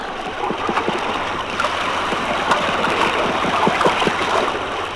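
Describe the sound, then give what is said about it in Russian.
Drumming fish of the Azov recorded underwater in rough sea of force 4: rapid, irregular clicking and knocking pulses repeat throughout, partly buried in a constant, loud rushing wash of rough sea noise. “И при волнении моря звуки рыб тоже слышны.”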